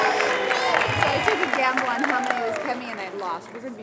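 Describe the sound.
An audience claps to thank the organizer of the event, in a steady, dense wash of applause lasting several seconds, mixed with overlapping voices and some cheering, fading slightly toward the end.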